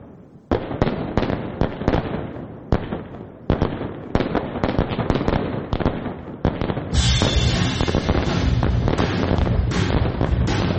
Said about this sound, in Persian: که با سر و صدا یا نویز آتش بازی شروع میشه